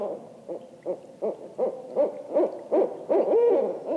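barred owl hooting

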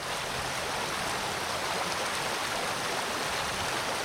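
rushing creek water

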